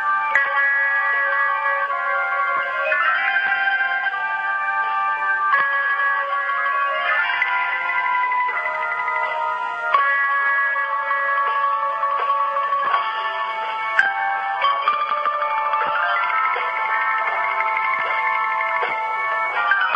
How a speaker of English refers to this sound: It's an unbelievable tune. It's a jazz tune, you know. It's kind of an odd jazz tune, but it really is a jazz tune.